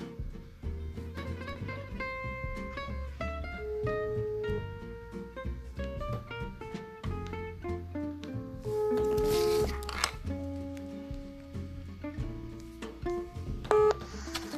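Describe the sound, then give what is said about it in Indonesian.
A long run of telephone keypad tones as a call is dialed, short beeps stepping through different pitches one after another at a quick, uneven pace, fairly loud with no talking. “Oke, kita akan telepon beliau ya.”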